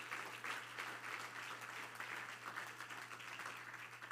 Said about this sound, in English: Somebody clap your hand to the Lord right now. Let's praise him one more time.